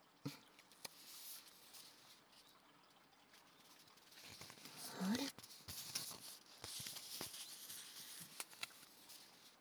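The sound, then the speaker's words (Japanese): The paper packaging of a tea bag of black tea is handled, with soft crinkling and rustling of the paper and tea bag material that rises into a brief louder crackle partway through, then settles into intermittent light rustles. No one speaks. “紙とこのティーバッグの素材の音、いい音ですよね。”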